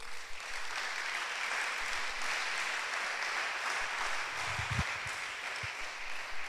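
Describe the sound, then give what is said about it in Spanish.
A crowd applauds for God steadily, a dense wash of many hands clapping at a constant, fairly loud level for several seconds, with a few low thumps near the end and no voices. “Damos un aplauso a Dios.”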